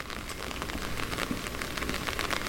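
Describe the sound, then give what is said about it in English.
Heavy rain pours down steadily onto a hard street surface in terraced streets beside a railway line in Cambridge on a warm, muggy day, a dense, continuous hiss of countless drops with scattered sharper splatters, and no voices. “It was muggy and rain started hammering down as we walked through the terraced streets that were hugging the railway line.”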